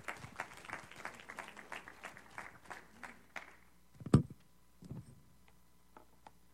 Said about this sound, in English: So give her a hand clap.